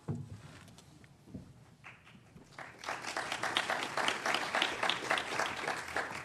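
An audience breaks into applause for a speaker before he starts speaking, after a few quiet seconds, a dense, steady wash of many hands clapping that holds at full strength to the end.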